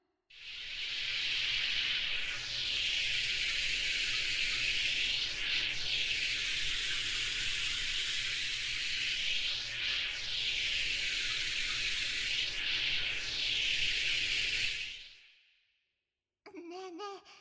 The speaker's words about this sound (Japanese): でも次のサービスに行く前に 一回体を洗い流さないとですね。 そういうこと。それじゃあ軽くシャワーをかけるからね。